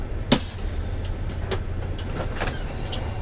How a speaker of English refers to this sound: After 3 hours, the bus pulls out of the Snake River Canyon and into the south end of Jackson. Commuters start getting out and head to work.